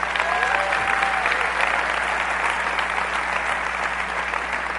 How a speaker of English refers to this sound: And to all of you, the graduates, I think you need to give them another round of applause.